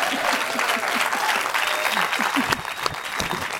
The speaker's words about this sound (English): Let's give her a hand.